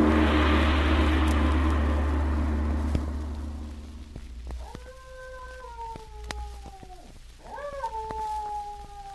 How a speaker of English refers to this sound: There is a … signal again. Two howls.